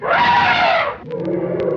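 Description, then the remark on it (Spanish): An elephant trumpets once, a loud, brassy blare that holds for about a second and then cuts off, followed by a quieter low rumble with a few faint clicks. “elefante. Es el encargado de tocar los...”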